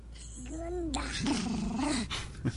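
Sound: imitated dog barking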